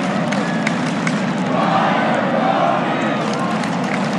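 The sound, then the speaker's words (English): A large crowd at a baseball ballpark chants and shouts "Fire, Tony!" together in a steady, dense roar of many voices that holds at the same loudness throughout, with no single voice standing out. “The crowd chanting fire, Tony, was a thing.”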